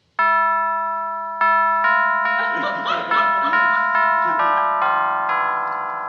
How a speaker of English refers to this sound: The Colemans have such a beautiful home. Not as nice as mine, but What a beautiful brass doorbell button.